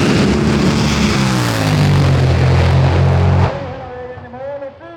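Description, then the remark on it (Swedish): A drag racing car's engine at the start line revs hard before launch, a loud, roaring, rising, sustained growl with the air from the exhausts shimmering, then cuts off abruptly, leaving a quieter background where a voice briefly talks. “Varvet i motorn ökar. Luften ur avgasrören dallrar.”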